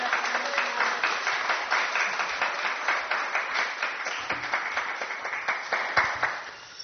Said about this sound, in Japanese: 歓迎の拍手を持ってお迎えしたいと思います。